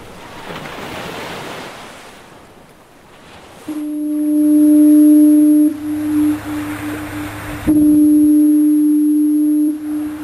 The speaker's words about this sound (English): Lighthouse Foghorn there at Owl's Head, the coast of Maine.